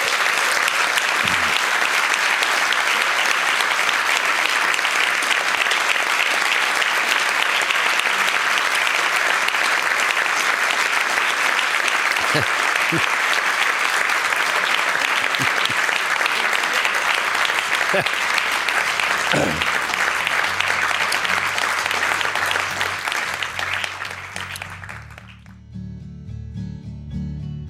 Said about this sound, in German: Und ich bitte zum Abschluss noch um einen großen Applaus für Herbert Prohaska.